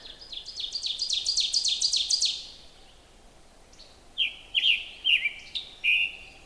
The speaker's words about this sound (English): Of course, you can hear other songs too, oven birds and song sparrows and things like that.